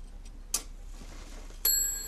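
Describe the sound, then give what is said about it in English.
A clockwork clock, owned since 1938, ticks faintly with a sharp click, then a bright chime strikes and rings on, clear, with no voices. “Those lessons from that kindly clockmaker fired up a lifelong love of clocks and clockwork.”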